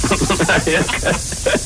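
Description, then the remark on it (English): A drizzle sound effect: a steady, soft hiss of drizzle falls without a break, a fine even patter filling the whole stretch, with faint muffled voices murmuring underneath. “Just drizzle, just the drizzle sound effect this morning.”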